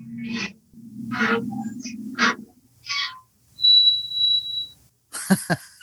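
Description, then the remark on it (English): A Halloween clock sound effect goes off: a run of spooky noises, with breathy whooshes over a low rumbling drone, a thin sustained whistle, then harsh rasping bursts at the end. No one speaks. “Uh-oh, here goes the Halloween clock.”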